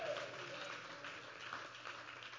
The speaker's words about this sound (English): Clap your hands and say hallelujah.